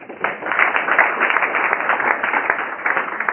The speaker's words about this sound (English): Thank you. Please give yourself a quick round of applause.